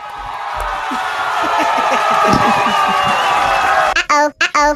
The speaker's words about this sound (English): You need to clap for yourself.